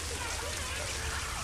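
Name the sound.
rain falling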